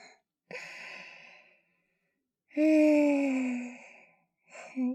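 human body sound, panting breaths

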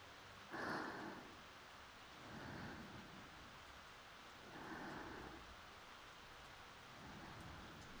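nature, rain starting to fall

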